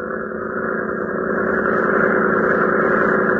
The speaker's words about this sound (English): Powerful motor throbbing. Red Cross cutter edges into the floodgate as the convict switches positions behind the crew members of Lois Lane.